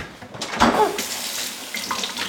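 A kitchen tap in a family home runs steadily, a broad hissing stream of water with a brief louder splash near the start, as an apple is rinsed under it.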